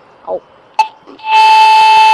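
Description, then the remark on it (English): A pedestrian crossing button, held down for 5 seconds until it sounds: a few soft knocks and a click, then a loud, steady, buzzy electronic tone kicks in and holds at one pitch until the end. “So you have to hold the button down for 5 seconds until it makes a noise like this.”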